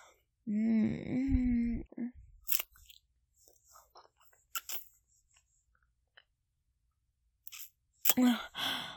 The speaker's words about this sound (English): Whoa there. What's with all that heavy breathing?